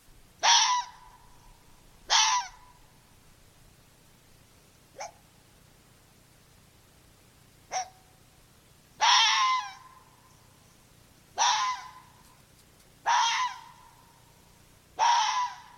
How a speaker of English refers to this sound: I thought I would feature a common sound that red fox make. It's sort of their bark, even though it doesn't really sound so much like a bark, but here is a recording of a red fox vocalizing now.